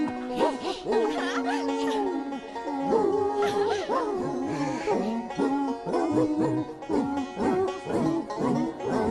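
Several dogs howl together as if singing, in long, wavering, pitched tones that rise and fall almost like a melody, with occasional yips mixed in, loud throughout.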